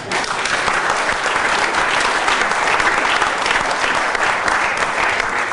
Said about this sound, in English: They have never, incidentally, and you can applaud this one if you want, they have never, any of them, been identified or apprehended.